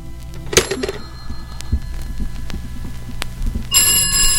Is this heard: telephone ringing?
yes